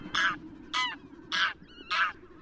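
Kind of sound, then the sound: bird, goose honking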